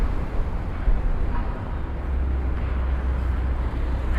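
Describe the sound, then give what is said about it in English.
Strong wind roars and buffets the microphone outdoors, a steady, loud low rumble with gusty surges throughout and no voices. “Oh, very windy. Very, very windy.”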